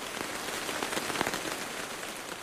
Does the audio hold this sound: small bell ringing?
no